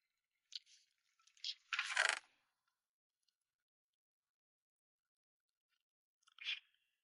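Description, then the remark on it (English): Crunchy chewing of a mouthful of dry cereal, something like a honey nut or almond kind: a few sharp, brittle crunches in the first two seconds, one louder than the rest, then quiet before a final crunch. “Chewing.”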